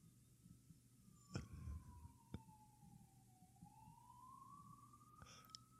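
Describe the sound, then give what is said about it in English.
A police siren wails steadily outside, its pitch sliding slowly down and then back up as it passes, with a few sharp knocks and thumps. “Can you hear that siren? Yeah. That's the cops coming to find you”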